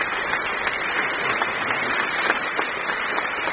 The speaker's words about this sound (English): This applause is now being directed to the appearance of Mrs. Glenn, who was not in the earlier group.